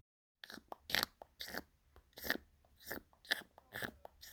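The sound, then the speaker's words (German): A young bee queen gnawing from inside at the wax door of her cell: a quick series of about a dozen dry, crackly crunching nibbles in an uneven rhythm, fairly soft, with no voices. “Ganz fein hört man, wie sie von innen am Wachstürchen nagt.”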